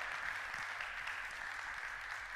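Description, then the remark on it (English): An audience applauds, a dense, steady wash of many hands clapping at once, loud and continuous from start to finish with no voices breaking through. “So we have this applause in our mind.”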